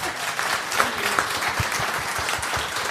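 A crowd claps steadily and densely, many hands at once creating a continuous rattling wash of applause that stays fairly loud throughout, with no voices standing out.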